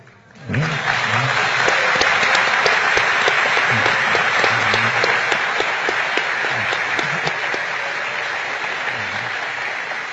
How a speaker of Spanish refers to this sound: Por la fuerza de los aplausos, supongo que aquí hay o muchos poetas o muchos electricistas, ¿no?